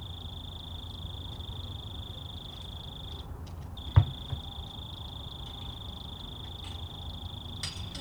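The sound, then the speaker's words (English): A lone cricket outside near the microphones trills in a steady, high-pitched drone over low background rumble, pausing briefly just before a sharp thump as someone takes out the recycling, and then resuming its continuous chirping. “I texted my mom and I said, "Hey, you got this one lonely cricket that's just hanging out right near the microphones with no friends."”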